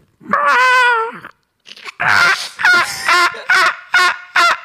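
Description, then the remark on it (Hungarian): A person loudly imitates a seagull: one long, wavering squawk, a brief pause, then a quick series of five short, sharp gull-like cries. “Egy sirály hangot.”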